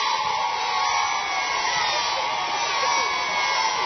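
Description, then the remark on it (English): A crowd of schoolchildren in a school playground cheering and shrieking together, a dense, steady wall of overlapping high voices that stays loud for the whole few seconds. “"There she is!" shrieked the children.”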